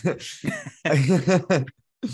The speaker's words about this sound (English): Sure, sure. As I clear my throat.